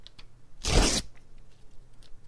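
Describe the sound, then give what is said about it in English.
A short, loud burst of harsh grinding noise, like a paper shredder chewing through a sheet, lasting under half a second against a quiet background. “The sound of shredding paper.”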